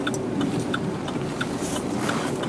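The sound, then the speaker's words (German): Steady low rumble of a car interior, with a constant engine and road drone filling the low end and faint, regularly spaced ticking clicks like an indicator running through it. “Und bequemerweise und weil es sich gerade anbietet, sitze ich jetzt im Auto und ich hoffe, ihr hört mich hier gut.”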